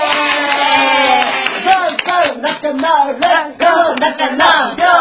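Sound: applause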